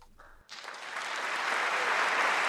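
A brief tail of dark, unsettling music gives way to a burst of audience applause after the performance, with Holocaust survivors in the audience, dense clapping that swells quickly and stays loud and steady.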